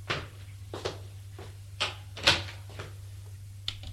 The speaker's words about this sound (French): Il ouvre la porte.